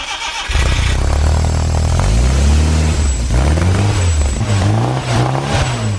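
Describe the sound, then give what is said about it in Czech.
The engine of a Škoda 110R coupé sports car starts and revs loudly, its deep exhaust note from a special Abarth-style exhaust, as fitted to 1970s and 1980s rally Škodas, rising and falling through several throttle blips with a raspy, throaty edge. “To auto má typicky škodovácký projev, nicméně je tam speciální výfuk dle Abarta, který se montoval na soutěžní škodovky v 70.”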